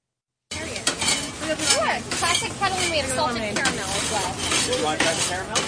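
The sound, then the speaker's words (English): Kettle corn sizzles and crackles steadily in a hot pot as it is stirred, made live on the spot by a vendor at the Wurtsboro Founders Day Street Fair on Sullivan Street, Sullivan County; a continuous frying hiss with voices chattering in the background. “Catskill Mountain Corn was making popcorn live on the spot.”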